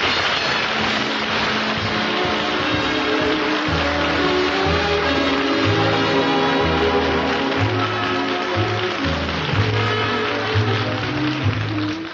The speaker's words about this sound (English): You're all applauding, and you got those smiles on your faces.